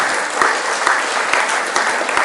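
crowd, audience clapping

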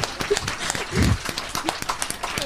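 crowd, applause

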